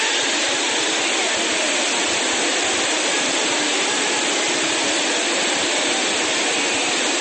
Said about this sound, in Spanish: Parece que el aguacero se estuviera viviendo dentro. La lluvia está inundando consultorios, pediatría, pues claramente tuvo que salir corriendo todo el mundo.